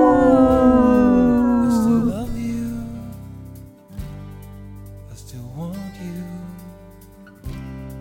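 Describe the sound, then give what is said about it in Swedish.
Loud, drawn-out wolf-like howls from human voices, a long falling howl at the start followed by a second rising and falling howl a few seconds later, with a steady background hum underneath. “Det ylar vi på.”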